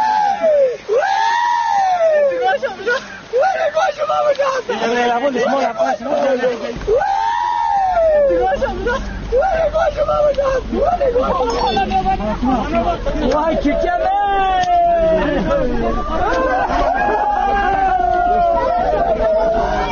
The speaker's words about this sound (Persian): و اما بعد از آن که تپه از حضور مردان بیگانه مانند امدادگران خلوت شد، خیلی از زنان و مردان به آنجا شتافتند و بر سر خاکی که عزیزانشان در آنجا گیر مانده بودند شیوان و زاری را سر دادند.